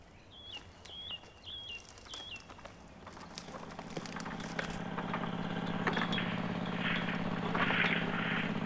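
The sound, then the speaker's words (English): A generator running at a building with some lights on and an antenna-like thing on the roof gives a steady, low, throbbing engine drone that grows louder after a few seconds, preceded by several short, high, repeated bird chirps. “From the hill I'm standing on, I can see one of the buildings has some lights on, and a thing that looks like an antenna on the roof, and a generator running.”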